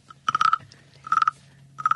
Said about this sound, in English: But this frog, it's a wooden frog.